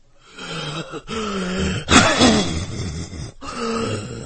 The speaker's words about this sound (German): Seine Frau blickte in sein langes, hageres Gesicht. Er hustete erneut.